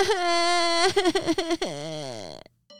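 A loud wail that breaks into a few choppy, sobbing bursts, then trails off in a long descending cry, like a baby bawling, followed by a brief silence: the story character Christmas Baby crying after falling down a chimney and bumping his bottom.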